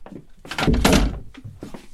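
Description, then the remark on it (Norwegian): A chair scrapes and shuffles, then lands with a heavy, low thunk, followed by a couple of softer knocks as it settles. No one speaks. “Men du, det er en til sånn stol som jeg har, så du kan ta det.”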